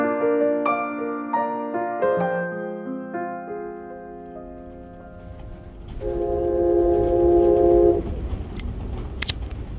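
Melodic tones fade into the steady rumble of a moving train, and a loud, sustained horn blast sounds near the end, followed by a few sharp high metallic squeals.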